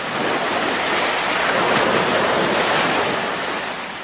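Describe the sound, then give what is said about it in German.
Steady ocean surf washing onto a warm beach, a broad continuous rush of breaking waves that swells slightly in the middle, with some wind noise and no voices. “In unserem Hörspiel lade ich Leute zur Tanzveranstaltung ein, die am Strand spazieren gehen.”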